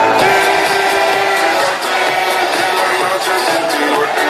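A large crowd of about 12,500 party supporters, gathered in the rain outside Ferraz to back Pedro Sánchez, sings a song together in unison, loud and steady for the whole stretch, with voices blending into a dense, continuous roar and occasional shouts rising above.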